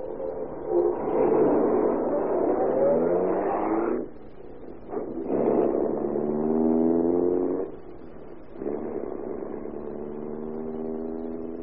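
A car engine revs up and pulls away, its pitch climbing through several gear changes with brief dips between them, loud with no voices.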